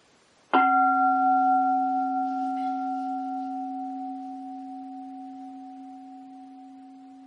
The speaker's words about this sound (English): And so the bell stops, but there is still sound. Even though the bell stops, there is still sound.